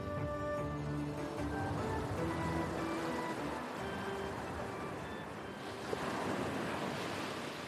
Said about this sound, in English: They are all on a small beach. In front of them, a blue expanse as far as the eye can see. The ocean.